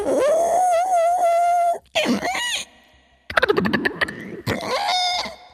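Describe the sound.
A voice imitates blue whale calls, with a long sustained moan followed by swooping, rising and falling squeals in several loud bursts separated by brief pauses.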